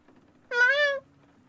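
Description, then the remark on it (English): A single cat meow, about half a second long, clear and fairly loud against a quiet background with a faint low hum. “I meow, you let me out. I meow, you let me in.”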